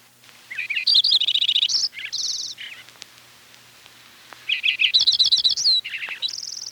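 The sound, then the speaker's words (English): A Lincoln's sparrow sings two bright, bubbly songs in succession, each a rapid jumble of buzzy trills and chirps at high pitch, separated by a brief pause, clear with no talking. “Although some people actually like the song sparrow's song, few would claim that it's nicer than a Lincoln sparrow.”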